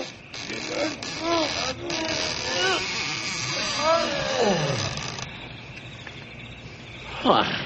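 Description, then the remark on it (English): Voices talk over a steady chirring insect hum, then a drawn-out creak slides downward as the big heavy doors of the only big building in a ghost town swing open after an old rusty padlock is smashed, with another short squeal near the end. “Now help me open up these big doors.”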